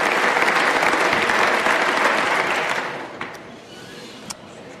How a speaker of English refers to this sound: Well, it's nice of you to clap before I begin speaking, because I'm not sure where we're going to end up tonight.